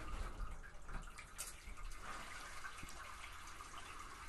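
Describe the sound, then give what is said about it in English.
Hot bathwater sloshes and trickles steadily as an object with black and blue plastic pieces is held under the surface, a continuous hissing wash of water with a few brief splashy bursts and no voices. “So Mum's holding it underneath the bath of hot water.”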